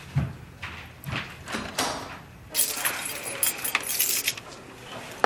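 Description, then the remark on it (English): Keys jingle and clink in short bursts, growing into a brighter, busier metallic jangle in the second half, with no one speaking. “You know, it would be a lot easier if I had my own set.”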